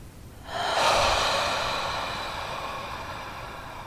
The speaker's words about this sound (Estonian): Ja pikalt hingame välja. Ja siis 3. kord ka sügavalt, rahulikult, pehmelt. Hingame sisse. Kõht, diafragma, rinnaku üleosa.